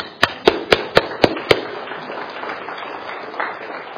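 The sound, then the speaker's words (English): A Baptist church audience applauding God: six sharp, evenly spaced claps ring out first, then dissolve into a softer, steady wash of many hands clapping, with no voices heard. “So I thought we'd do something really un-Baptistic today. Can we applaud God?”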